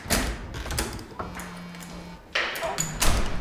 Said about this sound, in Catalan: La Mariana surt del pis, tanca la porta darrere seu i es posa a plorar.